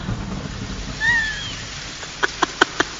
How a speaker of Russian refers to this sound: Маэстро, кажется, дождь собирается. Вы находите?